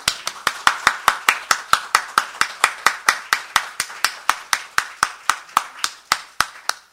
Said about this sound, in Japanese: それでは私たちを歓迎してくださっている主に感謝の拍手を持って礼拝を始めてまいりましょう。ハレルヤ。